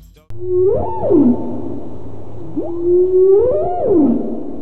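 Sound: whale calls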